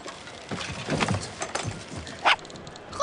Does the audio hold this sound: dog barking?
yes